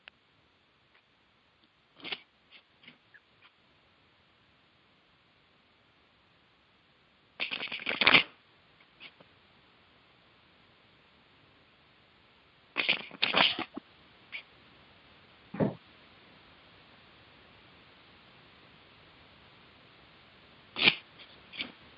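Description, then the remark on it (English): Tarot cards being shuffled, with several short bursts of riffling and flicking separated by long quiet pauses, and no one speaking. “Well, let's take our second and final commercial break while you shuffle the cards.”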